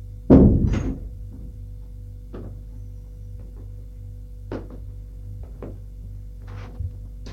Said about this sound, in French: Il referme la porte.